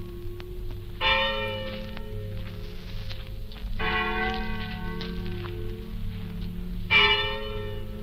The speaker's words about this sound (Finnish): Tuusulan kirkon kaunissointuiset kellot kaikuvat syksyiseen iltaan. Niiden hiljaiset, verkkaiset soinnut kantautuvat yli runoilijan haudan.